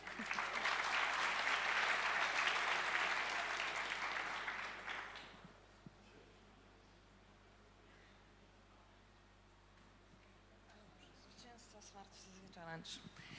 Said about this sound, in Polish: Zapraszamy. I poproszę o brawa.